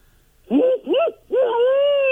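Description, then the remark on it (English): A person imitates a barred owl with three loud, hooting vocal notes: two short arching ones followed by a long, drawn-out hoot that slowly trails downward. “I don't know if you're going to attract many females with that call,”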